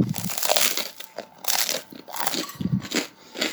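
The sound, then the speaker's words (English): Loud crunching as someone bites into and chews crusty garlic baguette, a run of crackly bursts coming every half second or so with no talking. “You can probably tell, but it's got really good crunch to that.”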